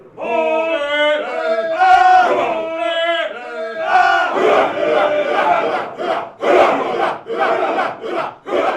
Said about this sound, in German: Ein Proberaum irgendwo in der Altstadt von Oulu in Finnland. Um mich herum stehen ungefähr 40 Männer in einem Halbkreis, singen sich ein und schmettern dann richtig los.